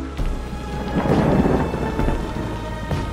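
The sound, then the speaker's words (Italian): Heavy rain pours steadily as a deep rumble of thunder rolls through and swells, with a broad, gusty wash of wind and downpour filling the space, no voices present. “Rimase solo l'ululato del vento, lo scroscio violento della pioggia.”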